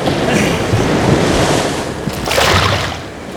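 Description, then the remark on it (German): Loud, roaring surf crashes continuously, with a broad hiss of breaking water and a fresh wave surging up near the end. Gusty wind noise rumbles underneath, and no one speaks. “Zwischen den tosenden Wellen schob Dylan das Brett zu ihm rüber.”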